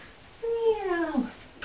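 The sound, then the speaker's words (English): A person's voice imitates a cat's meow, one drawn-out call that slides downward in pitch over about a second, with no other sounds around it. “Meow.”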